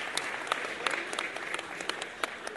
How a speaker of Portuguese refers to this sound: Agradecer, pedir uma salva de palmas à Ação Educativa, mais uma vez.